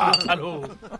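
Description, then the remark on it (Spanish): Glasses clink together in a toast at a birthday celebration, a few bright, ringing taps, quickly followed by people talking over the fading chime. “si no hace nada. ¡Salud!”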